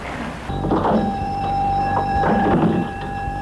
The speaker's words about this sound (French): On entre dans la librairie par une porte vitrée en bois. Attention à la marche qui descend pour aller dans le magasin. Après, l'on ouvre la porte.